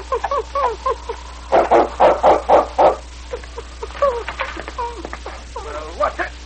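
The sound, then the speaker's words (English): A dog, King, barks five times in a quick, steady run, loud, with people talking before and after the barking, at the town constable's office in Seahorse. “When the great dog King arrived in Seahorse, he went directly to the office of the town constable.”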